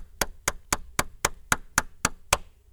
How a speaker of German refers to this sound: Arme nach vorne ausstrecken, öffnen und kurz und schnell klatschen.